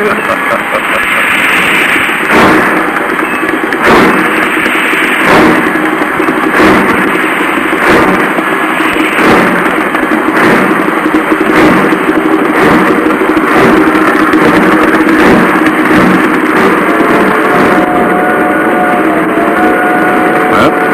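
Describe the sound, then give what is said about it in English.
The Empire Builder train pulls out with a heavy, continuous rumble and a steady rhythm of wheel clacks about once a second, holding loud and even throughout. “The Empire Builder leaving. And what a train.”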